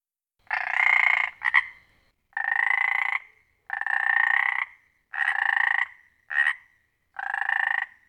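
A frog croaks loudly in a steady series of long, buzzy calls, each lasting under a second, with a couple of shorter chirps between them and no other sounds.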